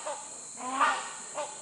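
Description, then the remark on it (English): A hornbill, a large bird, gives harsh, honking calls, one drawn-out call in the middle with two shorter ones before and after, against a steady high insect drone of the rainforest in Sumatra, Indonesia. “Our guide explained it was not a duck, but rather a large bird known as the hornbill.”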